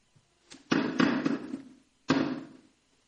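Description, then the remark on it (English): Someone pokes and taps at a chair to test whether it will bear their weight: a quick cluster of hollow knocks and rattling thumps, a short pause, then one more firm knock. No one speaks. “If I sort of poke it a bit, hang on.”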